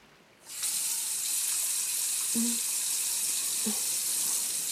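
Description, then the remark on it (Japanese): A shower turns on and water runs in a steady, broad hiss, wetting a seated person's hair, with a couple of faint low knocks partway through as the spray continues without a break. “では、シャワーで頭を濡らしていきますね。”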